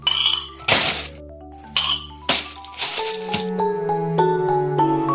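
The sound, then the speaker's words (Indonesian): Several sharp clinks of a plate being knocked and scraped as stir-fried long beans are thrown into the trash, each leaving a bright ringing tone that lingers and overlaps, with no talking. “Setelah membuang tumis kacang panjang ke tempat sampah, Mia membawa piring ke dapur dan mencucinya.”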